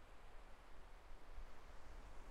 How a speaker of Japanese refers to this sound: 一人で海に来てる時と違って、いくら波音を聞いても落ち着きません。